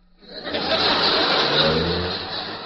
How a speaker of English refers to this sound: Look out, here comes a car. Look out!